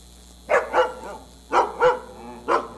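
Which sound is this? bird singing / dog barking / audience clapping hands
dog barking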